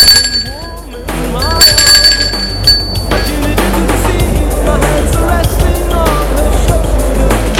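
doorbell ringing

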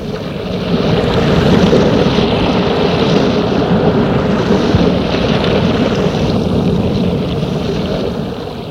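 sea waves

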